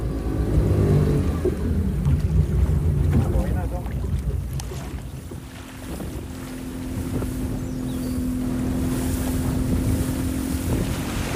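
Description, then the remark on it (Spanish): A motorboat engine drones steadily and loudly at sea, a constant low hum with a faint tonal whine. Wind buffets the microphone and water rushes past throughout. The boat is heading toward Puerto Valdía, Panama. “El día después, por fin salimos en barco en dirección a Puerto Valdía, en Panamá.”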